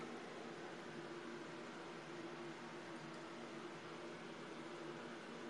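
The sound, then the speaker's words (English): Water pours or runs in a steady, unbroken hiss for several seconds, with a faint low hum beneath it and no voices. “Yeah, the water's real. Yes, it's real water.”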